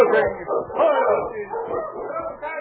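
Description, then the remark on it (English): Several sled dogs of Sergeant Preston's dog team yip, whine and bark together in a steady, overlapping chorus as the team stops at Pete Martin's camp on the way to Dawson, moderately loud, with no pause for the full couple of seconds. “Sergeant Preston of the Northwest Mounted Police stopped his dog team when he came to Pete Martin's camp on the way to Dawson.”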